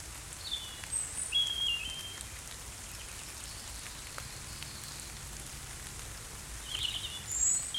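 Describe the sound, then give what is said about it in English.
Steady rain patters across the whole recording in a soft, even wash during the dawn chorus, while a few thin, high bird calls ring out faintly; as the rain settles, blackbirds and wood pigeons join in. No one speaks. “As the rain starts to settle, blackbirds and wood pigeons join the ensemble.”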